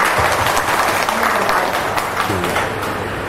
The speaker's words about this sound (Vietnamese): Vì vậy cho nên hôm nay mới có mặt thầy ở đây, xin quý vị cho một tràng pháo tay.